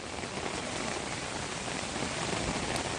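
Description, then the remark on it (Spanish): Heavy rain from a cold-drop (gota fría) storm in southeastern Spain pours down steadily in a dense, continuous hiss, with no pauses and no voices, filling the whole stretch at an even, fairly loud level. “Bueno, el caso es que sigue lloviendo.”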